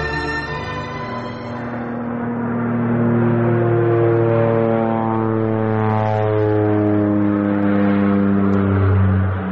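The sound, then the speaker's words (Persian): A propeller aircraft engine drones loudly and steadily, its tone shifting gradually as the plane slows and throttles down, as if taxiing after landing at an airfield at night, in a drama. “این که این تیاره مربوط کی است و در درون صندوق‌ها چی جا بجا شده و در ادامه چی خواهد شد، این همه را در این دراما میشنویم”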